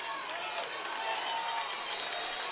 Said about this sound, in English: Our crowd, and boy, what a crowd came up here from Lowndes County to Tipton on their feet.